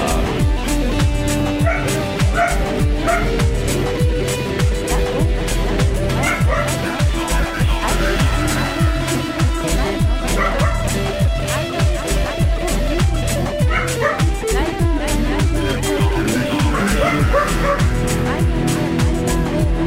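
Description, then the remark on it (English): A Catahoula dog barks and yips repeatedly in quick bursts, fairly loud, with occasional whimpers, over a dense, steady wash of background noise throughout. “Dog is in the house. Dog is in the house. Catahoula.”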